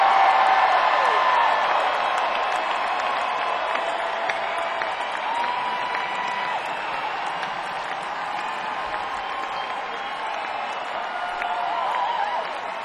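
Sustained crowd applause fills the whole stretch, a dense wash of clapping with scattered cheers and whistles rising above it, steady and loud throughout.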